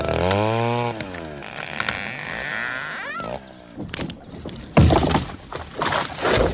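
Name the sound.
chainsaw cutting down trees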